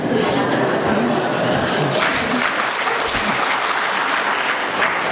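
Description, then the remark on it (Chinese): A crowd applauds after a poem about a couples' camp is read aloud, with steady, dense clapping that holds at an even loudness throughout, the claps blurring into a continuous patter, with a few faint voices and chuckles mixed in. “你念得真好，你看大家都鼓掌，谢谢你。”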